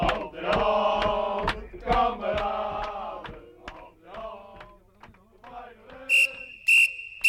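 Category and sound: signal or alarm, referee's whistle blowing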